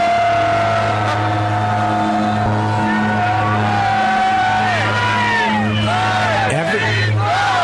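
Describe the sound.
An airplane taking off: a loud, steady low engine drone with layered humming tones that shift and swoop in pitch as the power builds, with faint voices murmuring underneath.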